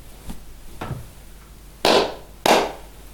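Two loud, sharp hand claps about half a second apart, preceded by a couple of fainter, quicker claps, with no talking.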